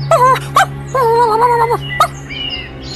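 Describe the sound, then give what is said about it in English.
At home, a dog whines and moans in drawn-out, wavering high cries, a few short yelps breaking in between longer mournful tones, over a low steady hum. “Back home, Chico was making a lot of commotion. Hachi? What's wrong, boy?”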